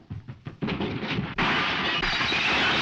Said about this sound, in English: He smashes into a mirror that divides the living room from an adjoining room. Firefly hurries to the sound of broken glass.